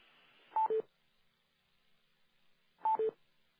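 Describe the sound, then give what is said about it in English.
Telephone keypad tones as pound and six are pressed to unmute a phone on a call-in line: two quick beeps in a row, then the same pair repeated about two seconds later. Clear, with no talking and only faint background hiss. “So unmute the phone at your location, select #6 to unmute the phone using our system.”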